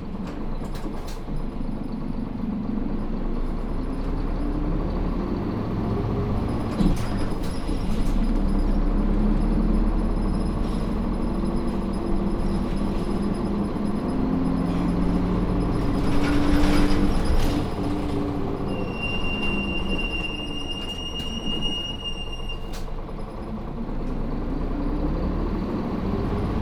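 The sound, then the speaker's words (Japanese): A bus engine rumbles steadily as the vehicle departs and keeps driving toward its next stop, Ōgawara, a low continuous drone from inside with a brief high whine near the end. No one speaks. “ご乗車ありがとうございます。次は大河原、次は大河原です。お降りのお客様はお知らせください。”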